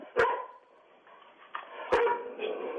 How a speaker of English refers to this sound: I hear a lot of barking. Did you say Timmy was a collie? Yes.